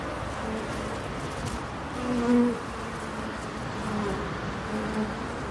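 A steady, continuous hum of many bees droning together, with a few tonal swells rising and fading over the low buzz, with no talking.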